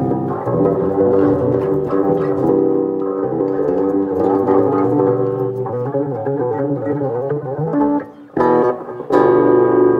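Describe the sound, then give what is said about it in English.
A bass guitar with a neck position pickup and a P bass pickup plays sustained, harmonically rich notes, added distortion giving a gritty edge layered over a constant clean low tone, steady and loud, with a brief pause before a final struck note rings out. “So I got that clean tone is always there. I add the distortion in.”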